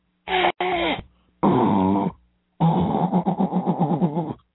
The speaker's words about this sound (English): I'm going to blow my nose. I'm sorry, hang on.